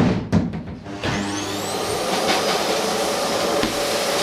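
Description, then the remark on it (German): A few clunks and handling knocks as a cleaning worker takes out a vacuum cleaner and plugs it in during a house-cleaning job, then it switches on with a rising whine and settles into a steady, loud roaring hum with hiss. “hantiert am Putzschaft umeinander, holt der Staubsauger uns und steckt ein.”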